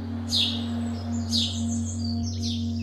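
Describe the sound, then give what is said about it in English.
Bright chirps and short trills of birds such as wood pigeons, wrens, owls and sparrows sound in three bursts roughly a second apart, fairly clear, over a steady low hum in the background, in a city during lockdown. “In place of rumbling engines and rowdy pedestrians, they could hear the chirps and trills of wood pigeons, wrens, owls, and sparrows.”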